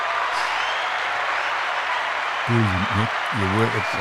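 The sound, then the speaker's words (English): Steady, dense audience applause for a man's 68th birthday runs through the whole clip, and partway through a man's voice cuts in over it with a few loud, emphatic bursts of speech. “Don't shout over the applause now.”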